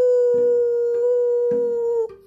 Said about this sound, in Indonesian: Setiap pagi, ayam-ayamnya selalu berkokok membangunkan kami para tetangganya. Kukuruyu! Kukuruyu!